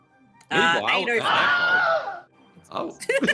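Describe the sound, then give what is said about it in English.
A loud Wilhelm scream, the classic stock sound effect, rings out as one drawn-out, wavering male cry lasting under two seconds. Brief voices follow right after it. “That damn Willem scream.”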